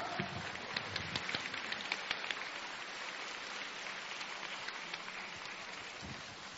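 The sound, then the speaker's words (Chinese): A crowd applauds steadily to welcome Lu Junhong to do a totem reading, a dense wash of many hands clapping that holds at an even level throughout, with a few sharper individual claps standing out near the start. “现在让我们用最热烈的掌声恭请尊敬的卢军宏台长为我们慈悲看图腾。”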